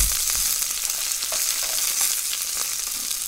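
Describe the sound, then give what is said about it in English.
Food sizzles and crackles steadily in a hot pan in a home apartment kitchen, a constant hiss dotted with small pops and the occasional scrape of stirring, with no voices. “They have this very small operation, and they're cooking out of their apartment home.”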